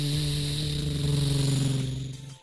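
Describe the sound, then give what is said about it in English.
A truck drives past in a pine forest, its engine rumbling with a steady low hum and a buzzing drone, holding loud for about two seconds before quickly fading away. No one speaks. “Ava ducked behind one of the pine trees as all of a sudden a truck drove right past her.”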